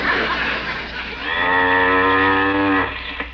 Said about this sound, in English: Let's see now. Where can that cow be?